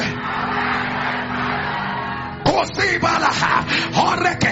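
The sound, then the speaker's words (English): A large crowd shouts "Align by fire" loudly together in a dense, sustained roar for a couple of seconds, then a single strained voice yells on over lingering crowd noise. “Each of the months I mention, you're going to scream, align by fire, three times.”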